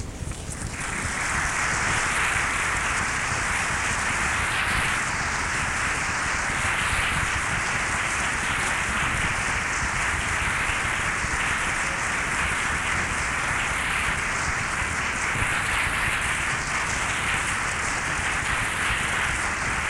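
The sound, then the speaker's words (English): A large audience applauds a speaker's remarks without pause after a speech, dense overlapping clapping forming a steady, hissing wash of sound that holds the same loudness throughout, with no voices. “I hope that you hear the tribute that is intended by that applause for your remarks, and that you bask in it for no more than 10 minutes.”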